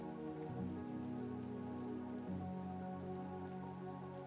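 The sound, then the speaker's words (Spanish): Steady rain patters continuously on a surface, a dense even wash with no breaks, accompanied by a low, sustained humming tone underneath. No voices are heard. “Qué linda la lluvia, ¿no? Escuchándola me pongo a pensar que nunca he sentido algo igual.”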